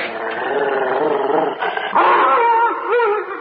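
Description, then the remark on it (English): A dog, Kim, howls and whines loudly in protest as he is being brought inside through a door, in one long unbroken stretch, his voice sliding up and down in pitch, with no clear separate barks. “He's protesting rather vehemently, sir.”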